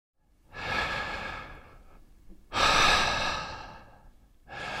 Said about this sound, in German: Tief Luft holen. Denn durch die Luft kommt die Energie in den Körper.